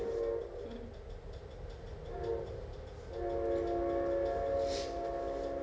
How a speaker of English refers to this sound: Everybody say hi to the train. Hi, train. Even on Sundays.